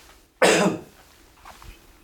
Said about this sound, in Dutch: Even kuchen. Eén moment, pardon.